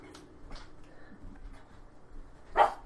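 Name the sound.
dog barking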